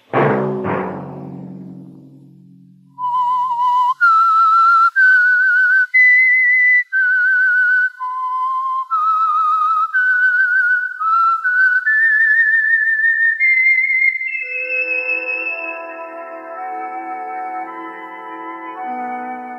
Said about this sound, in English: Let that whistle be your signal for the Signal Oil program, The Whistler, each Sunday night at this same time.